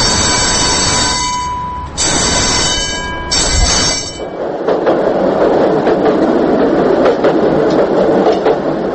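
A tram rolls along its rails with loud, sustained metallic wheel squeals over the first few seconds, then settles into a steady rumbling clatter. No one speaks.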